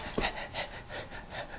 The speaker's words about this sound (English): All you hear is dog breathing.